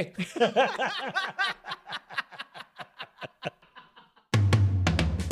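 A sheep bleats in a long, wavering run of quavering pulses that gradually fade and thin out, followed abruptly by a burst of louder music.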